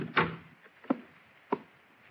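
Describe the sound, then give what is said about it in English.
A door swings shut with a soft, hollow thump, followed by two sharp clicks spaced about half a second apart, like the latch settling, with quiet otherwise. “Well, in that case, maybe you ought to shut the door.”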